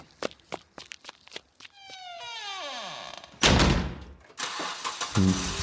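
A few sharp knocks, like footsteps and a car door, lead into an engine whining through a falling pitch, then a loud, rough rush of a car driving off.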